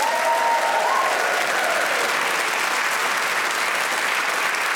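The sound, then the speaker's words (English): The studio audience of Just a Minute breaks into loud, sustained applause and cheering for the four panelists being introduced, a dense wash of clapping that fills the whole stretch, with a few whoops rising briefly near the start. “Please cheer for every one of them.”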